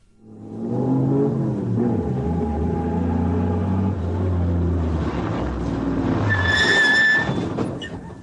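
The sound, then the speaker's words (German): A large school bus engine rumbles and revs steadily, like a bus pulling away, ending with a brief high-pitched squeal near the end, at the start of a rock'n'roll record about school buses. No one speaks. “Es gibt auch eine Rock'n'Roll-Platte über diese School Buses”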